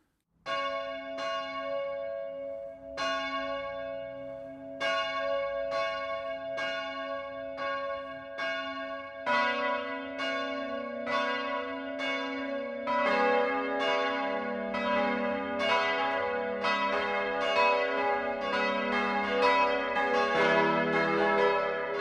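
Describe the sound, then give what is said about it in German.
Noon church bells of the Catholic parish church of St. Peter and Paul in Dalking, Upper Palatinate, ring steadily in a continuous peal, the strikes overlapping and growing fuller as more bells join in, with no voices present. “Das Mittagsläuten kommt heute von der katholischen Pfarrkirche St. Peter und Paul im oberpfälzischen Dalking.”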